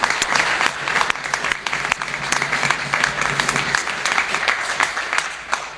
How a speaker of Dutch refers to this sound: En daarvoor echt een groot applaus voor jullie allebei.